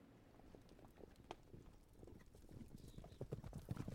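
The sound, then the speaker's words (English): Horse hooves clip-clop in a steady, uneven rhythm, several animals on hard ground, with scattered clacks and faint background rustle but no talking. “Horseback riding is how Icelanders got around for 1,000 years.”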